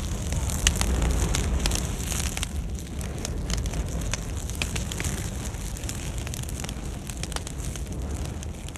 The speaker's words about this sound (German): Aber da sie ihre Nadeln und Äste nicht abwerfen, damit das Feuer seinen Weg hoch in die Kronen zu den Zapfen findet, dauert es viel länger, bis sich genug Brennmaterial angesammelt hat. Dafür lodert es dann sehr heiß und intensiv.